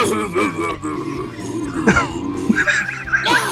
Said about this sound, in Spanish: A ver, haz fuerza, carraspea a ver si se sale el pollo, tío.